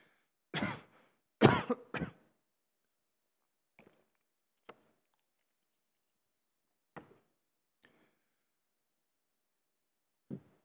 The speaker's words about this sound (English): I'm trying to cough. Excuse me.